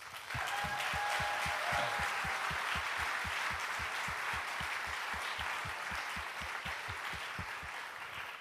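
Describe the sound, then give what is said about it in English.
A sustained round of applause from a church audience at New Life Church on Memorial Day weekend, honoring service members and veterans, dense and steady for the whole stretch, with individual claps blurring into a loud wash that eases slightly toward the end. A brief faint whistle rises early on. “I'd like to start first with, I think we have some service members in our audience and veterans, and I'd like to just take a moment to honor them with a round of applause.”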